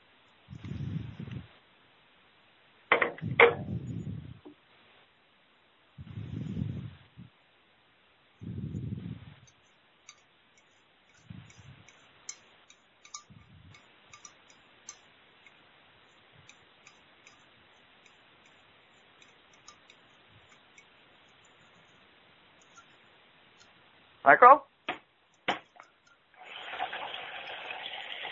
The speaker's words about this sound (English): Somebody's washing the dishes.